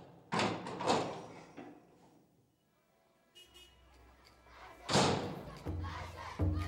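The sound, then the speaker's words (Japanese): A door opens with a thud onto a busy town street in daytime, letting in the loud, bustling noise of the crowd, with voices and clatter swelling and fading, then surging again, as a streetcar passes noisily. “扉を開けると私はもう町の往来に立っていた。”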